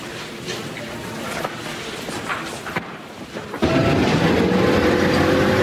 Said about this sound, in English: The St. Vincent school bus pulls to a stop in the snow-covered courtyard behind the orphanage.